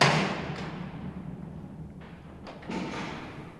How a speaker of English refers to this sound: the cell doors at Alcatraz.